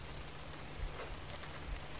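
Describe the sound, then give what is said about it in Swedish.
Steady rain falls in a continuous, even hiss with soft scattered drop patters and a low rumbling undertone, moderately quiet, with no voices. “och med din fulla uppmärksamhet låter du ansiktet ta emot regnet.”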